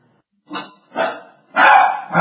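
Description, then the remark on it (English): A dog barks at the ringing doorbell: three times in quick succession, loud, harsh bursts, the last one longer and rougher, with another bark starting right after; no talking. “The doorbell rang and we have our watchdog number one going after the doorbell, whoever it is.”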